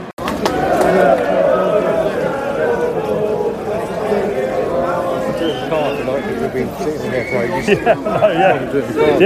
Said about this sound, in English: I just wanted to get a bit of background noise in, actually. Lovely, the people queuing up for the train, and it's nearly 11 o'clock,